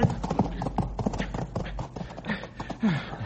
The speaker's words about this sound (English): Oh, that was close. I was sure he was going to pitch us both over the side, stupid horse.